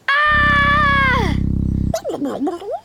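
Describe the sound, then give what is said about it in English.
A voice imitates a dinosaur roar: a loud, wavering high cry sliding downward over a deep, rattling growl for about two seconds, followed by a few short, warbling vocal noises. “It's a dinosaur!”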